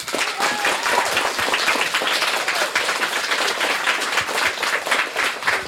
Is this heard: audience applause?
yes